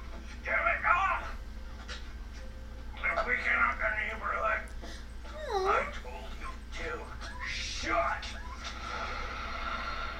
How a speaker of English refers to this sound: It's the puppy.